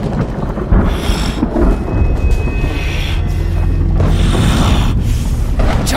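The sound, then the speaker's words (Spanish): Loud, rumbling thunder rolls and crashes through a storm, deep and sustained for several seconds, with a broad roaring wash and no voices. “Y la negrura se incendió con cientos de relámpagos que imitaban la furia de los Alushes.”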